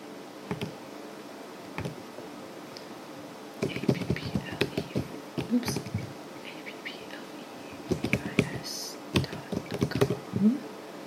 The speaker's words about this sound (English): Typing in AppleVis's website. I can hit enter.